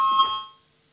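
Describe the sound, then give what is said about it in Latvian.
A parliamentary voting bell rings out loudly in one short burst before a vote on a proposal, its bright metallic tone fading away within about half a second and leaving silence, with no one speaking. “Lūdzu zvanu, balsosim par pirmo tieslietu ministra Bordāna iesniegto priekšlikumu”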